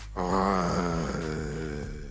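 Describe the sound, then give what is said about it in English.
A person imitates a growl with one sustained, low, rough vocal sound lasting about two seconds, steady in loudness with a slightly wavering pitch, and no other talking. “Let us hear your growl.”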